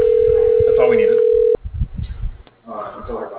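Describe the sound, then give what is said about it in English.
A telephone call ringing as a steady, loud, single-pitched tone that holds for about a second and a half, then cuts off abruptly, leaving muffled voices talking. “phone. There it goes.”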